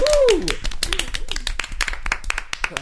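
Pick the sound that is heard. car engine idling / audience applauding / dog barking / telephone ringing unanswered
audience applauding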